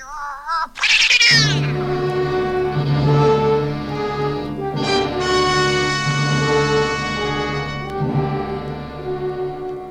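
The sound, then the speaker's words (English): A cat gives a short rising meow, then breaks into a loud, drawn-out yowling that wavers in pitch for several seconds, with no one talking. “Well, if she's that important, we'll get along. Won't we, Kitty? Nice, Kitty.”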